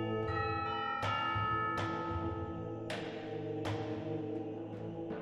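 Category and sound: signal or alarm, church bell ringing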